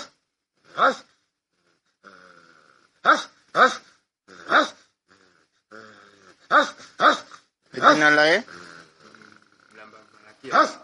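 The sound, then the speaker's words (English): A boy, a medical patient foaming at the mouth and acting oddly, barks like a dog, letting out a series of loud, sharp barks and yelps in irregular bursts, with a drawn-out growling howl near the end and quieter muttering between. “He supposedly got all his rabies vaccines, but the patient started behaving this way today, foaming at the mouth, odd behavior, barking like a dog.”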